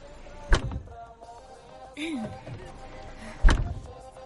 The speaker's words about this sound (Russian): Закрывай дверь, поехали.